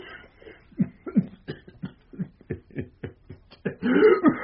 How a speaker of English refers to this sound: That cough.